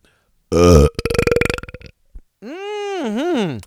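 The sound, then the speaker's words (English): A loud wet belch erupts in stages: a thick opening blast, a gurgling, rattling stretch, a tiny hiccup-like blip, then a long drawn-out belch that wobbles in pitch. “I award that website with the dreaded Undercountry Music News Wet Belch of the Week”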